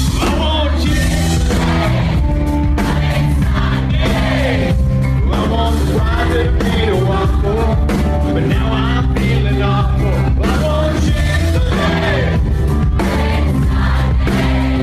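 A large crowd sings loudly together over steady, driving music, voices merging into one continuous, energetic chant with occasional shouts and cheers mixed in.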